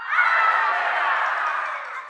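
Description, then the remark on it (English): An audience of many voices shouts hallelujah together in praise of God, a loud, sustained burst lasting about two seconds that then starts to fade. “Now praise God with shouts of hallelujah.”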